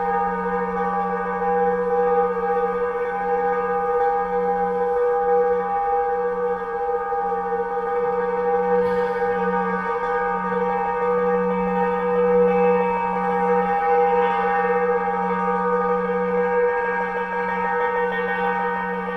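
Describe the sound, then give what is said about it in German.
Sustained, shimmering metallic tones ring steadily as metal is rubbed, stroked and struck with screwdrivers, wooden mallets and steel brushes, producing bell-like drones with rich overtones, with a brief struck accent midway and no voices. “Damit streichen, reiben und klopfen sie glockengleichen Klang aus den Metallen.”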